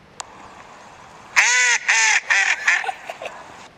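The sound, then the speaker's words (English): A mallard duck on a pond quacks in a loud, raspy series of about five calls, the first long and strong, the rest shorter and fading, with no talking. “I'm going to go for mallard.”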